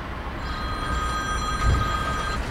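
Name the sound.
phone ringing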